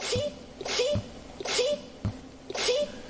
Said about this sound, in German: Gesundheit. Danke. Das war aber ganz süßer Nieser. Entschuldigung. Ich glaube, den schneide ich nochmal rein.